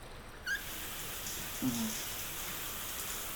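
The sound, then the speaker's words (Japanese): Shower water runs in a steady, even hiss that fills the whole clip, with two brief squeaky chirps cutting through it early on. The shower is turned on at a salon washing area before a shampoo and head massage. No one speaks. “そうしたらまずはシャワーを出して、”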